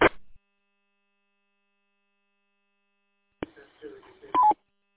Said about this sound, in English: I think you have your Roger beep turned on.